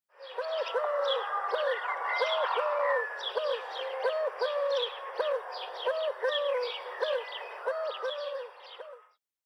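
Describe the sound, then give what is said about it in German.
A Eurasian collared dove coos in a steady, repeating rhythmic phrase, the soft low notes recurring throughout, while other birds chirp and twitter busily in the background. “Man könnte da auch hören, du Kuh, du. Du Kuh, du, du Kuh, du, du Kuh, du, du Kuh, du.”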